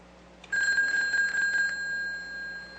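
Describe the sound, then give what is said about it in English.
A payphone's mechanical bell, plugged into a VoIP box, rings loud in one rapid, rattling burst of just over a second as it is called from another line to test its wiring, then its metallic tone hangs and fades. No voices are heard. “Now's a good time to test the wiring. It's pretty easy. Just call the phone from another line.”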